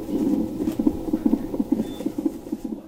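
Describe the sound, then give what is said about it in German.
A fetal heartbeat on a monitor, from an unborn child being monitored with its mother after open back surgery in the womb: a quick, steady, regular run of soft whooshing thumps, about two to three per second, with a low hiss underneath and no voices. “Schön regelmäßig sind die Herztöne zu hören.”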